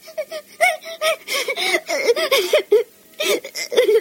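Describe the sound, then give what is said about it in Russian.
A young child cries in choppy, sobbing bursts of high wailing, with short gasping pauses between cries; no one else speaks. “Ну, малыш, ну, что ты ревешь?”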